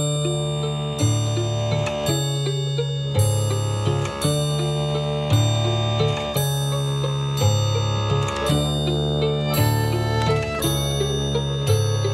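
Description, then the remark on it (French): A large clock with seven hands strikes the hour with a steady run of rich, ringing tones that repeat at an even pace, each strike overlapping the last as it rings out. Loud, with no voices. “La grande horloge aux sept aiguilles sonne l'heure des sourires figés.”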